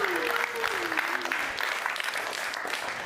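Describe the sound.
A burst of audience applause for a participant who guessed correctly, dense steady clapping that holds at an even level for a few seconds, with a brief voice heard faintly near the start.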